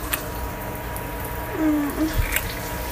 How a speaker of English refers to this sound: I know they can barely hear over the shower, but I don't want to get caught.